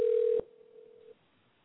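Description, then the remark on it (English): A steady, mid-pitched telephone tone sounds loudly as a phone call is placed to a guest, then abruptly drops to a faint continuation before cutting off about a second later. No one speaks. “So we're going to be calling.”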